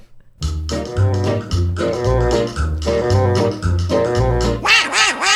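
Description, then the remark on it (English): A raspy, quacking duck-like voice sings over a bouncy musical backing with a steady, thumping bass line, loud throughout, ending in a burst of higher squawky warbling. “They both deal with sounds and songs of our feathered friends.”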